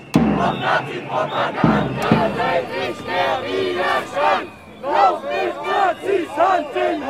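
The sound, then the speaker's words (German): A loud crowd of counter-protesters, mainly from the left-wing milieu, shouts at a street demonstration march they accompany, separated by a police line. Many voices shout over one another in rough, overlapping bursts, with rising and falling yells and a few sharp thuds near the start. “Ihre Gruppe ist kleiner, aber laut.”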